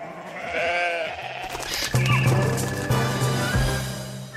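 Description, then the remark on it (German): A cartoon sheep from an animated series gives a wavering, quavering bleat, followed by a low, steady buzzing tone with a few brief clicks and no speech. “Nur schon das Schaf ist schon das Schaf.”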